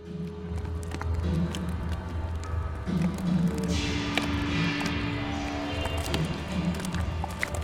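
Wet slime slaps and squelches in a quick, irregular run of soft thuds as it is thrown up, pulled apart and kneaded at the performance Gutopia – The Treatment, with occasional drips and smacks over a steady low rumble that never drops away.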